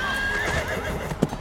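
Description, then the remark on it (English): Cavalry horses gallop into a ravine with a dense, continuous patter of hooves while a high, wavering neigh rings out over them, followed by a sharper thud near the end. No one speaks. “They galloped deep into the ravine, and before long they couldn't even hear the fighting or the blaze.”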